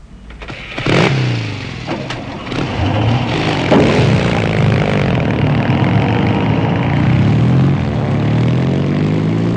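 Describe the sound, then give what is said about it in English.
A car engine turns over and catches, then revs up into a loud, steady drone that climbs in pitch as the first car pulls away with an officer and an SS man aboard, with no voices. “He looks over at Ramsey and the prisoners on parade as he gets into the first car.”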